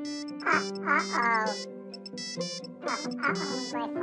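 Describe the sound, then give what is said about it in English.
A mobile phone ringtone plays, a bright melodic tune with voice-like sung notes, repeating its short phrase in loud bursts with brief pauses between them. “My phone.”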